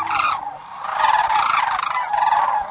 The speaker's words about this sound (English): In the rosy glow of a sunrise on a southwestern marsh, a pair of sandhill cranes calls in unison. With a graceful leap, wings outstretched, the two cranes welcome the last days of February. The stately cranes are courting,